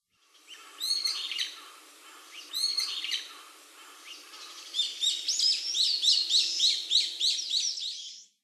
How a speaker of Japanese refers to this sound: ヤブサメです。